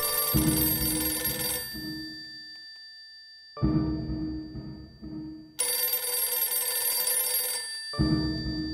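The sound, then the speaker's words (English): An old-fashioned telephone bell rings loudly in long bursts, with short pauses between the rings and no one talking. “I think the phone is ringing.”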